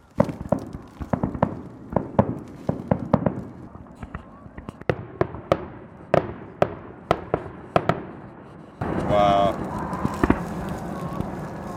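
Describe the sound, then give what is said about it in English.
Fireworks from a fireworks display bang and crackle in an irregular series of sharp pops over roughly nine seconds, followed by a denser burst of crackling with a whistling tone near the end. “Fireworks have begun.”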